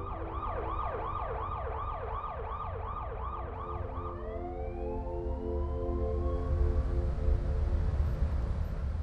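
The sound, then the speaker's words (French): An ambulance siren sounds in a fast, repeating yelp, then shifts into slower rising wails, with a steady low rumble of traffic underneath, as an ambulance arrives to take Rodney King to the emergency room. “Une ambulance arrive, il est emmené aux urgences.”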